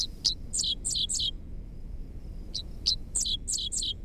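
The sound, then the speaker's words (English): A dickcissel, a bird of the cardinal family, sings on a fence line along a country road in Kansas on a summer morning: two buzzy, stuttering phrases of sharp chips and slurred notes, each a quick run of about five high, bright syllables, separated by a short pause over a low background rumble. “Half insect, half sci-fi blaster, this song belongs to a bird called the Dixisle, whose name spells out the syllables of its quirky song.”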